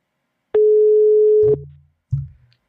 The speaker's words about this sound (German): Ah, das klingt schon mal gut. Es klingelt.